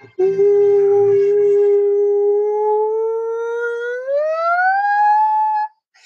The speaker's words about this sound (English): There's my daughter screaming. She's worried I'm giving away the secrets of the universe.